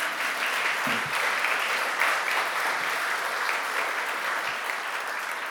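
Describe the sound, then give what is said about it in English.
An audience claps steadily for several seconds to congratulate a girls' brigade on its first display, a dense, even patter of many hands at a constant moderate level with no voices over it. “I thought there'd be applause at that point, really.”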